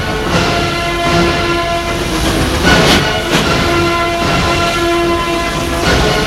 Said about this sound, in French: Après des heures et des heures de voyage, 8 heures, le train roule à petite vitesse par manque de charbon et il fait omnibus. Le train arrive, gare de Lyon.